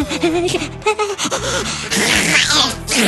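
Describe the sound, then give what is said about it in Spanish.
A small baby girl, being dried on a little table, lets out a loud, sudden sneeze, a sharp noisy burst partway through that shoots out a bit of snot, over a steady background of voices and music. “Bueno, la pequeña estornuda y vemos salir un moquito a toda velocidad disparado con dirección desconocida”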